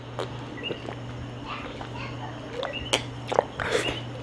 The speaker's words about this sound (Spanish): Solamente una taza de café. Así que vamos a darme un traguito antes de empezar.